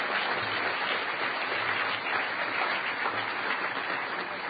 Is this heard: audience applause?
yes